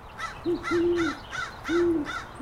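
A female owl hoots in a fairly quick series of five higher-pitched notes, clear, with no voices and only faint background noise.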